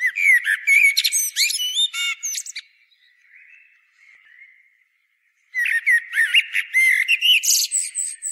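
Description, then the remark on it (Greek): Blackbirds sing in busy bursts of high, warbling whistles and chirps by a spring trickling from rock at the root of an ancient tree, pausing for a few seconds of faint quiet before the lively calls return. No voices are present. “Όλος ο βράχος άνωθεν στάζει ως αν από ρευστούς μαργαρίτας και το γλυκί κελάρισμα του νερού αναμειγνύεται με το λάλον μηνύρισμα των κοσίφων.”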